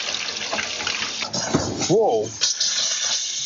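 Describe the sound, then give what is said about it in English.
Water gushes steadily from a kitchen tap in a Colorado home near several gas wells, a continuous splashing hiss, with a short vocal exclamation breaking in about midway as the owner flicks a cigarette lighter and the water bursts into flame. “The owner turns on his kitchen tap, flicks his cigarette lighter, and jumps back as the water bursts into flame.”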